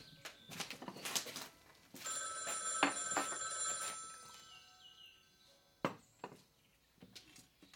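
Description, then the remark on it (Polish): A telephone bell rings in a sustained, bright metallic trill for a couple of seconds, amid scattered clattering knocks and thumps before and after, with no one speaking. “Raz jeszcze przepraszam. Odbiorę.”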